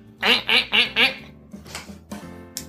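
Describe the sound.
A duck quacks four times in a quick, even rhythm, loud, followed by a few quieter, scattered quacks trailing off.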